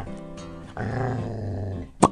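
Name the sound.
dog growling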